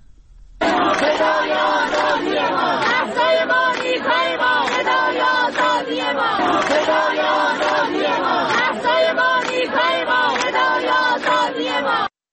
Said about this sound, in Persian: ظاهرا یک چیزی هم از تهران برامون داری، صدایی صدای دانشجویان دانشگاه تهران رو میخواستم پخش کنم.